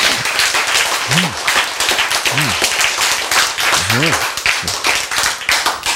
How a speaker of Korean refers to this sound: 그렇죠? 박수.